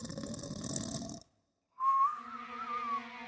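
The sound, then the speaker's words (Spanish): A large wolf snoring in a bed inside a house: a rough, rasping snore is drawn in, then after a brief silence comes a loud, wavering whistle on the exhale, like a whistling snore. “El cazador escuchó un silbido extraño dentro de la casa. Miró a través de la ventana y vio a un gran lobo roncando en la cama de la abuela.”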